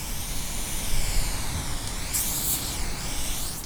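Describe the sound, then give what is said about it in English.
A continuous hiss of an aerosol spray paint can as an artist paints a mural, steady for several seconds with a brighter, sharper burst partway through, and no voices. “And in February, a veteran aerosol artist painted a mural about 10 blocks away from the warehouse in honor of the victims who died in the fire.”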